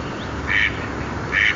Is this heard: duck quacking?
yes